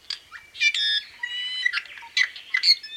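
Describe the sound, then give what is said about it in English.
An i'iwi honeycreeper, a native Hawaiian forest bird, gives a rapid series of harsh, nasal squawks with creaky, buzzy overtones, fairly loud, in irregular bursts over a few seconds with no talking. “When an i'iwi flies down into a ohia tree that has birds such as apapane or amakihi in it, they all vacate because the i'iwi is the dominant bird there.”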